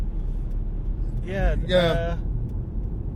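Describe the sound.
A steady low rumble of a nice car with no one in it going by, swelling slightly midway, with a short burst of someone talking over it near the middle.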